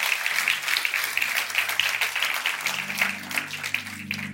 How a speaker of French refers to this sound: Est-ce qu'on peut applaudir, s'il vous plaît, ce que Dieu fait pour nous?